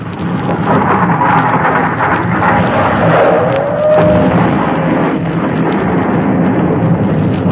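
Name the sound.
explosion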